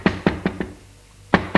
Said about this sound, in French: Elle frappe à la porte.